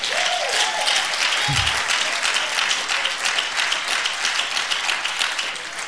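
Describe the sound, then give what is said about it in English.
An audience at a church service claps their hands for crying babies in a dense, steady wash of applause that holds at a strong, even level for about six seconds before easing slightly at the end. “Come on, clap your hands for the babies crying out.”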